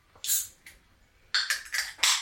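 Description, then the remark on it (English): Olipop soda cans crack open with bright metallic pops and short fizzy hisses: one can first, then a quick run of several crisp, hissing bursts. No talking. “Let's bust these open.”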